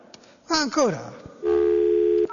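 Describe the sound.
A short gliding, voice-like sound drops in pitch, then a steady telephone tone hums at an even level for nearly a second before cutting off abruptly.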